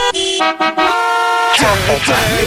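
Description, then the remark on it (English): A short radio traffic report bumper jingle built from bright, sustained car-horn honks in a stepped melody, followed by a busier burst of swooping tones and a sweeping flourish, loud with no talking. “Nobody ever celebrates the traffic bumper, and you just raised your hands.”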